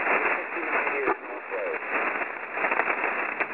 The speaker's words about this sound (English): Okay, I did very difficult copy this evening, lots of noise on the band. You're 5x9 in the clear, but lots of static